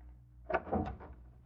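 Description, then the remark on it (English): A skeleton key scrapes and clicks in a locked door's lock in a darkened building hallway, a short cluster of metallic rattles and clunks lasting about half a second, then quiet. “No, I'll try the door. You're locked. I'll use a skeleton key.”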